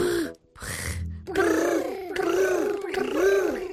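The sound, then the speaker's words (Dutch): A person imitates a happy tiger, voicing a rolling, purring brrrt rumble in three sustained bursts after a couple of short breathy starts, fairly loud. “Maar het mooiste is de blije tijger die brrrt.”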